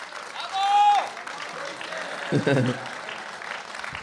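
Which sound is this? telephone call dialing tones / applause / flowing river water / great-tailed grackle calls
applause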